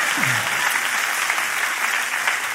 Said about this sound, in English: Oh, the applause died down by 73%.